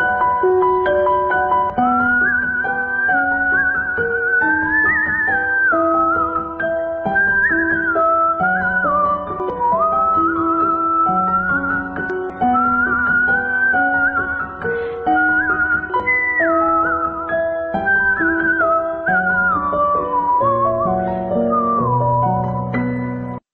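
A lilting melody is whistled steadily over a full instrumental backing, the bright tune weaving up and down without pause for over twenty seconds, loud and close, with no talking.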